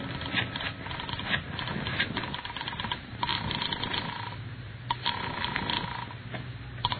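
A telephone in a house being dialed, with rapid mechanical clicks and rattles in short bursts over a steady muffled hiss. No one speaks.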